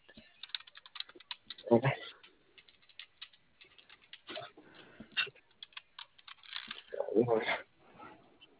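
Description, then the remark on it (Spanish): Rapid, irregular clicking of someone typing on a computer keyboard, fairly quiet, with a couple of brief voice sounds breaking in over the keystrokes. “¿Ni con teclado te responde?”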